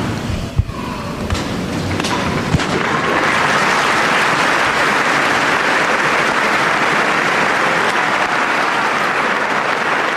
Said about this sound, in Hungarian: És a nagy tapsból talán így a hallgatók is ki tudják venni, hogy sokan vannak jelen, akik ugye nem követik képekben, azoknak elmondom, hogy szinte teljesen megvan telve a 6. pálterem. Rengetegen voltak jelen ezen a mai katekézisen.